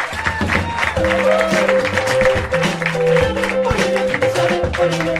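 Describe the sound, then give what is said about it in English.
Loud, sustained audience applause fills the whole stretch, a dense steady clatter of clapping mixed with upbeat music playing underneath. “I want more applause for our fans.”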